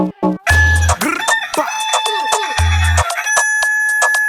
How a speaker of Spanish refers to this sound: Oye, mami, mira cómo suena el gallo.